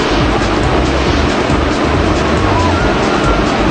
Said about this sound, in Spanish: El agua ya llegando en forma inminente, y vamos a ver la forma espectacular con la que atraviesa estas viviendas precarias que están en ese lugar en Chosica.